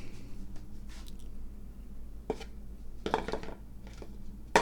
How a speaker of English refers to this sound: I'm taking the seed cup, which is really just a cottage cheese container. I'm going to put that back over here.